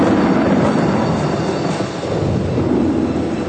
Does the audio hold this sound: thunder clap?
yes